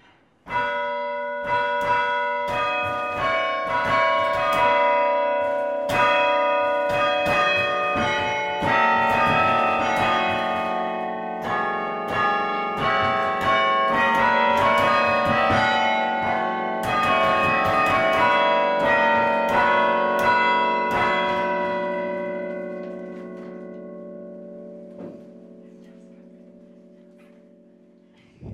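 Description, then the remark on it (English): University tower bell chimes ring out a slow melody, a hymn and a march, each struck note overlapping the ringing tails of the last, loud and resonant, then fading into a long decay at the end. “the chimes played the hymn Old 100 and the march Hail Columbia”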